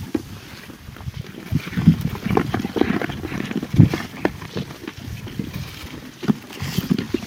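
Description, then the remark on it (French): Hens peck and crunch grain made of wheat, oats, peas and vetch: a steady patter of short, dry clicks and cracks at an uneven rhythm, moderately loud, with no voices over them. “Ça craque parce que donc c'est du grain, il y a du blé, de l'avoine et du pois et de la veste.”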